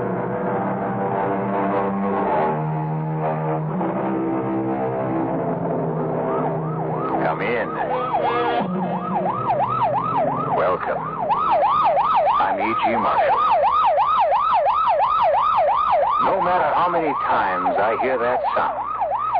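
A police car or ambulance siren wails in rapid, repeating up-and-down sweeps on the way to or from an emergency, growing louder and more insistent, in the CBS Radio Mystery Theater. Lower traffic or engine rumble sits underneath, and no one speaks.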